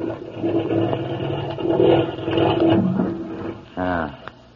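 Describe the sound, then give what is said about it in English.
A marine engine rumbles steadily with a low, gritty drone as it is sped up, its tone swelling and surging in pitch as it revs, ending in a brief strained rising whine. “Know anything about marine engines?”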